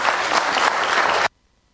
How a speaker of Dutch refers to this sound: Nog een applaus voor onze commissieleden.